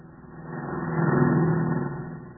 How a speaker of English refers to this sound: Don't you see there, Squire? That car never stopped neither.